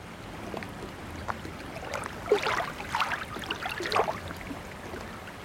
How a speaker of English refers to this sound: But for now, enjoy this generic sample of lapping water sounds.